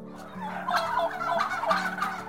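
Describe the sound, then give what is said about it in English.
A turkey gobbles in a rapid, rattling series of throaty warbles, repeated in bursts over a couple of seconds, fairly loud with a low steady hum underneath. “And turkeys can do more than just gobble.”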